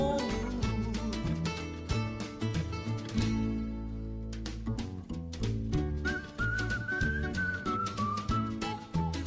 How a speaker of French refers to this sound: Oh que oui, qu'on siffle.